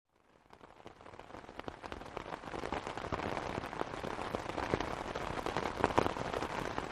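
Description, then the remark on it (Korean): Heavy rain pounds on a folding three-section umbrella that doubles as a parasol, on a walking path: a dense crackling patter of sharp drops that swells over the first couple of seconds into a steady, loud downpour. No one speaks. “빗방울이 무거워져 우산이 주저앉을 듯했다.”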